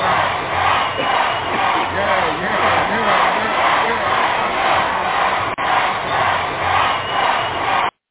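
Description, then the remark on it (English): A crowd-cheering sound effect: a large crowd roars and cheers in a dense, sustained wash of voices, steady and loud for about eight seconds, with a brief dip midway before cutting off abruptly. “I got to give you another crowd.”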